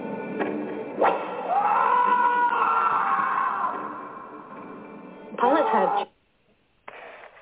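A loud, sharp crack is followed by a man being punished letting out a long, strained scream, then a second harsh vocal burst before the sound cuts to near silence.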